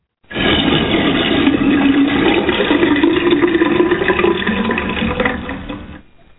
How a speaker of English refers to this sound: That's right. I just flushed it all. I'm through with that.